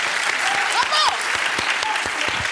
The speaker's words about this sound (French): Je t'applaudis.